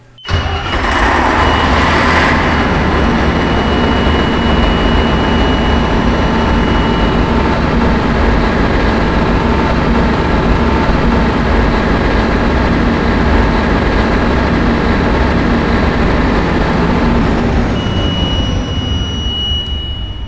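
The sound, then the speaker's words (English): A large turbocharged engine of roughly 400 horsepower, its block kept warm at about 100 degrees, cranks briefly and fires up, then settles into a loud, steady, deep rumbling idle with a faint high whine running through it. No one speaks. “Turbocharged, and I'm thinking the horsepower is in the range of 400”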